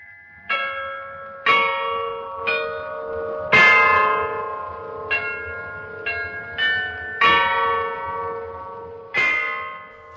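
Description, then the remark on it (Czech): The carillon of the Loreta in Prague, first sounded in mid-August 1695, rings out a slow melody, about nine resonant strikes at shifting pitches, each tone lingering and fading before the next, with no voices present. “Zvonkohra z pražské Lorety se poprvé rozezněla v polovině srpna 1695.”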